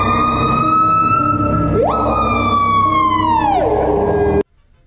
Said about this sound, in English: That is a piha. I don't know. It's a bird of some sort, I'm assuming.